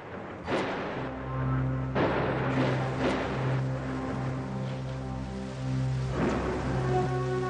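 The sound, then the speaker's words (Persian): Steady rushing rain of a gathering storm, with black clouds covering the sky, fills the scene, with a low droning hum underneath and a few louder whooshing surges, like gusts or waves, breaking through at intervals. No one speaks. “ابر سیاه تمام آسمان را پوشانده. فکر می کنم هوا دارد طوفانی می شود.”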